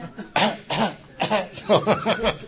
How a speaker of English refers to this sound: Yeah, mine's faking it. Mine's got a button that you push, and she coughs, you know.